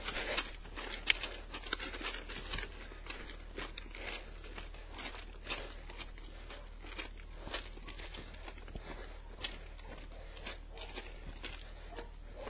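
Footsteps crunch steadily over coarse railway track gravel, a continuous stream of gritty scrunches and small stone clatters with no talking, the irregular walking rhythm filling the whole stretch.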